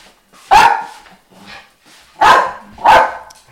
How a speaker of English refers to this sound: Just set off the dogs now.